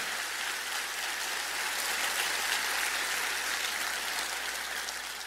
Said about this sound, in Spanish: Alguien diga amén y vamos a escuchar un aplauso fuerte porque somos nacidos de una esperanza nueva.